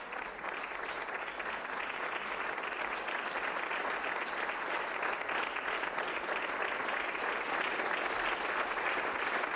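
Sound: audience applause at ceremony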